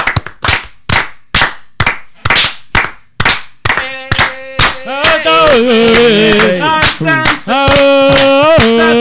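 Steady, rhythmic hand claps, roughly two per second and fairly loud, continue throughout; about halfway through, a wavering melodic tone joins and carries on beneath the clapping.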